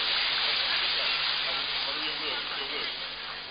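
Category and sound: crowd, audience applauding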